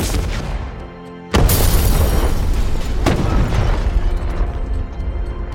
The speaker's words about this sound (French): Un jour, alors qu'il n'a pas encore pris les armes, il sort de sa voiture qui, quelques secondes plus tard, explose et s'envole jusqu'au premier étage de l'immeuble devant lequel elle était garée.